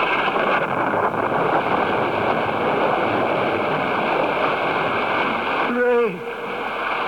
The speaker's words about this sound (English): Gentle rain, the drought is ended. The gods have listened to our prayers.